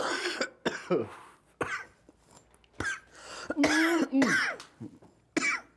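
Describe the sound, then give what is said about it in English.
A loud fit of harsh, hacking coughs after smoking, about eight bursts in quick irregular succession with brief gasps between them, some raspy and strained. “Got a cough to get off, bro.”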